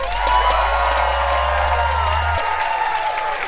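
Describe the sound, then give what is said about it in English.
A live crowd cheers and applauds steadily, a loud sustained wash of clapping and voices with occasional whoops, plus a low hum underneath that cuts off partway through. “You guys are such a beautiful crowd. Are you guys having fun?”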